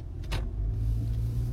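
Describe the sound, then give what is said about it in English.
A vehicle's engine rumbles low and steady, with a brief airy whoosh early on as cars drive past on the road. No one speaks. “I'm trying to get out of your way, but not into the way of these cars.”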